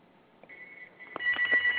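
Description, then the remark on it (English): A phone rings with a steady electronic tone that starts softly, then grows louder and more warbling toward the end, with a few clicks and taps mixed in. “Oh, I hear a phone ringing.”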